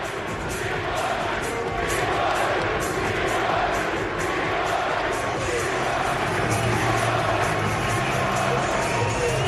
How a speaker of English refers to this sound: Kansas out of timeouts with 14 minutes to go. There's Bedlam in Provo. Listen to the crowd here for a second.